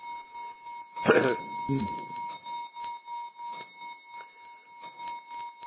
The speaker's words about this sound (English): clock striking